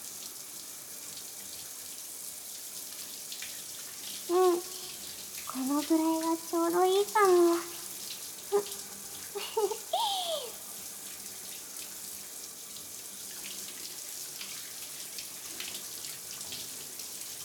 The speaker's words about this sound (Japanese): 頭にシャワー当てられるの気持ちい